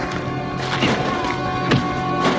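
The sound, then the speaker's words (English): Punches land in a brief scuffle: two or three loud, dull thwacks spaced unevenly over a steady background hiss, with no one speaking. “You just hear the punching.”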